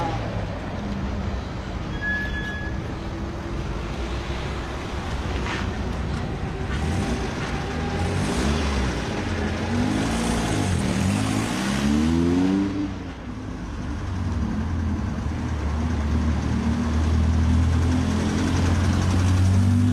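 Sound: car engine running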